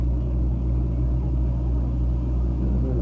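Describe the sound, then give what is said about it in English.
A steady, heavy rumble of an electric trolley car rolling along its rails, powered from an overhead wire, a continuous low drone with no pauses and no voices, fairly loud throughout. “It runs on rails, and it gets the power from a wire overhead. Trolley car.”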